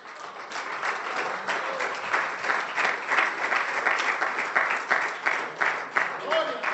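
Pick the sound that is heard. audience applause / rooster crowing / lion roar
audience applause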